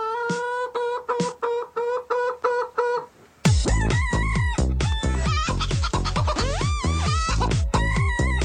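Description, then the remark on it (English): A loud, bouncy tune built from chicken clucks, with short squawking notes repeating in a steady beat, then a brief pause before a denser, faster run of clucking over a thumping rhythm. “Chicken song.”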